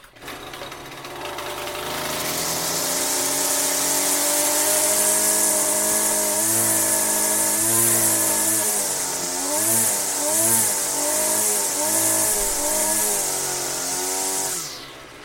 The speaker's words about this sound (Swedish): Där var den, ja. Ja, men detta var en lövblås. Ja. Detta var en lövblås.